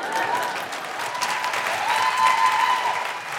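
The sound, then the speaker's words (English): A steady burst of audience applause, many hands clapping at once in a dense, sustained wash of sound that holds fairly loud for a few seconds. “Anything that gets a round of applause is too good.”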